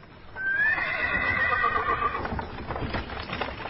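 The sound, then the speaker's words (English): A horse lets out a loud, wavering whinny lasting nearly two seconds, then hooves clip-clop in a steady rhythm as the horses draw a wagon loaded with furs away before sunrise. No one speaks. “The next morning, before the sun came up, Pa got the horses ready, put the furs into the wagon, and drove away.”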